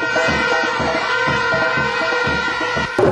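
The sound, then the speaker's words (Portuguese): A crowd cheers and shouts steadily at a children's athletics race in Jamaica, where thousands of boys and girls aged 8 to 16 compete on the track; a dense, loud wash of many voices with a brief surge near the end. “Torcida.”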